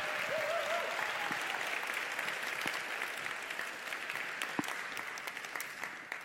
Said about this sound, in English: First, I'd like to welcome Amy LeBenz, your curator and executive producer. Round of applause for Amy.